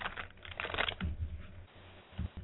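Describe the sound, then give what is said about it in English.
A deck of playing cards is shuffled, making a quick burst of dense, papery clicks that thins into scattered softer flicks and a final tap. “I'm going to shuffle these cards, and I want you to do me a favor.”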